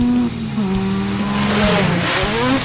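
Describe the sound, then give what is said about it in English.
A tall motorized sleigh's engine roars loudly as it drives through snowy trees, its droning pitch wavering, then a harsh skidding screech rises as it brakes hard into a handbrake turn and slides to a halt. No voices. “A tall motorized sleigh roars towards him through the trees.”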